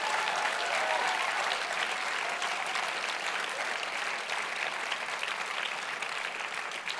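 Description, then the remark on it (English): An audience applauds steadily for about seven seconds, a dense wash of clapping with a few cheers and whoops mixed in, holding at a fairly even loudness before easing slightly toward the end, cheering in congratulations for 50 years. “Can we give them a big cheer?”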